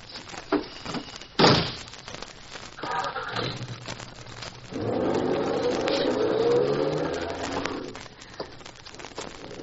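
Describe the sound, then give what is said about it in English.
A car door thunks shut, then an engine starts and a car with an Ohio license plate revs and drives off, the motor swelling and fading over several seconds, with faint bird sounds in the background. “Officer, the man that just drove by in that car is wanted by the FBI.”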